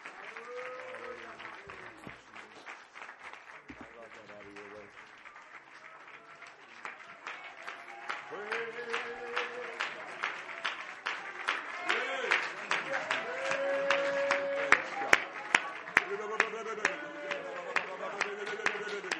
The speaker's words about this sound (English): Can we give the Lord a big round of applause, everybody? Can we worship Jesus just for a moment longer?